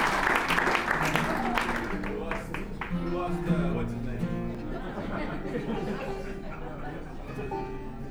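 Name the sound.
audience applause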